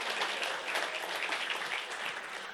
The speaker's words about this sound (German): Gib erstmal dem wunderschönen Deko-Team fetten Applaus für alles, was sie hier schon kreiert haben. Vielen, vielen Dank.